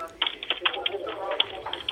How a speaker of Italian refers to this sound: Senti il rumore? Sentiamo ancora il rumore, il ticchettio della tastiera di Telese, senti.